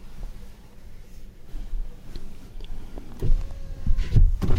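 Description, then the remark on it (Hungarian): A car's electric window motor whines steadily for about a second at a mid pitch as the window is rolled down, over a low rumbling background, ending with a couple of soft thumps. “Akkor letekerem én.”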